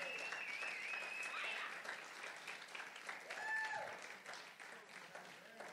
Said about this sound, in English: Give the Lord a clap. Give Jesus a clap this morning.